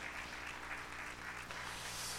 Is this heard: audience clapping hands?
yes